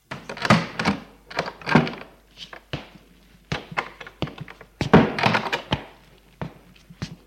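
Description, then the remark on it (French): A door being opened, with a run of irregular wooden thunks, taps and latch clicks over several seconds, some louder clunks among lighter knocks, and no voices. “Quart d'heure plus tard, la porte s'ouvre et la fait retourner.”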